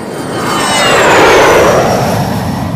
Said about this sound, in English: As the skies get crowded, the noise is getting unbearable. No wonder cities like San Jose, California have a curfew on jet traffic.